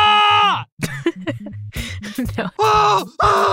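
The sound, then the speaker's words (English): A scream sound effect from a sound effects library: a man lets out loud, forceful, manly yells, several strained, harmonic-rich cries in quick succession, sustained at a fairly steady pitch with brief breaks between bursts. “No, that's like way more of a manly, brave scream.”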